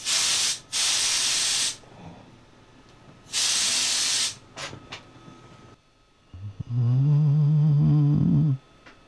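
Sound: aerosol spray can hissing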